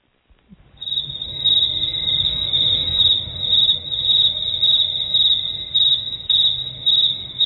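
A steady, shrill chorus of crickets chirping continuously at night, fairly loud, with a low background hum underneath and no voices.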